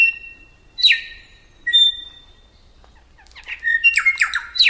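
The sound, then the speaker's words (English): Korimako, 8-inch mossy green nectar-feeding songbirds with dark wings and tail, call together: two drawn-out whistled notes, then a loud, tumbling burst of overlapping squawky chirps and whistles from several birds, with no talking. “Many birds sing together, especially in the morning. Pairs sing duets, and a pair may countersing with its neighbors, perhaps letting them know that this patch of land is taken.”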